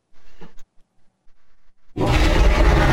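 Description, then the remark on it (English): A brief quiet stretch with faint rustling gives way to a sudden, loud roar sound effect, harsh and sustained, that bursts in near the end and keeps going without any talking. “Oh, okay, I'll go dig up the roar here.”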